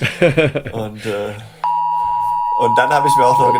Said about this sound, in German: Jetzt hört ihr gerade den 11 Uhr Signalton. Ja, jetzt ist hier bei uns Signalprobe für die diversen Sirenen. Und natürlich, das war mein Handy, ja, das hier kurz reagiert hat. Aha. Das ist Punkt 11 Uhr, ja.